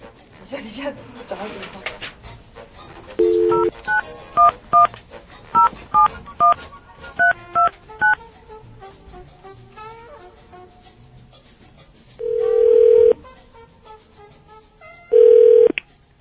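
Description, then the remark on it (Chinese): A quick run of about ten short, evenly spaced telephone keypad beeps as a call is dialed on air during a radio show, followed after a pause by two longer, steady ringing tones on the line. “嗯 ，OK， 我们要我们 on air 打给”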